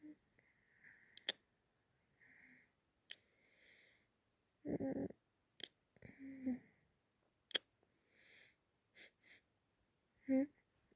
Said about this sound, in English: Yeah, I'm sniffing you. What about it? Cutie, you're not stinky. You smell good. Love the way you smell.